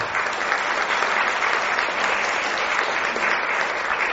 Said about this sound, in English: And I think that in itself deserves a big round of applause.